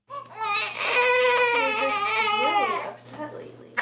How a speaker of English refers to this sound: her newborn baby boy are both in tears.